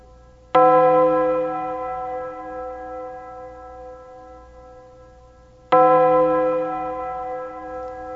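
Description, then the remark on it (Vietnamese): A deep bronze church bell strikes twice, several seconds apart, each loud toll ringing out with a long, shimmering hum that slowly fades before the next blow, signalling the start of a farewell ceremony. “Tiếng chuông đồng ngân đi ngân lại như thổn thức báo hiệu giờ nghi lễ tiễn biệt bắt đầu, nên hết thảy đều ra tập họp ngoài công viên nơi có đặt tượng Đức Mẹ.”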